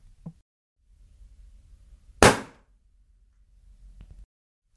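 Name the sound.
balloon bursting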